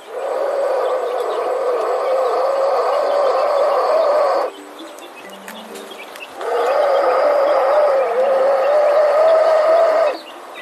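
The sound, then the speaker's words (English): A black mamba hisses twice, each a loud, raspy exhalation lasting about four seconds, separated by a short quiet pause. No one speaks. “Here's what the hiss of a black mamba sounds like.”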